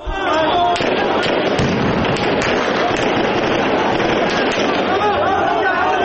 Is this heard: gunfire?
yes